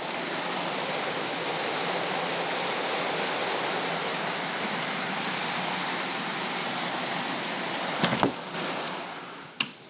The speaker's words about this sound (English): It's raining like crazy here again. Tropical Storm Bill just keeps on giving, like the Clintons. Giving and giving. Yep, it's raining hard, folks.